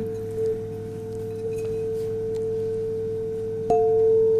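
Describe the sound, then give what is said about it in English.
A chime tuned to Venus rings with a steady, pure mid-pitched tone that hums on evenly, then a second mallet strike near the end brightens and swells the ringing. “This is the chime for Venus.”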